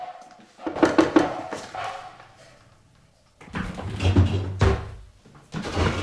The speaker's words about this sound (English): A large wooden door.